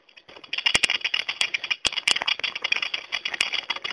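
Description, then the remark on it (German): Walking poles drag and scrape along the ground in a steady, hissing rasp as someone walks at a moderate pace with arms stretched, broken by a few sharp clicks and taps as the tips catch. No one speaks. “Wir lassen jetzt als erstes die Stöcke am Boden schleifen.”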